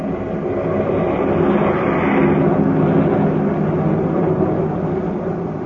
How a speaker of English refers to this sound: Far overhead, a fleet of airplanes soars in battle formation, a jagged spearhead against the fleecy clouds.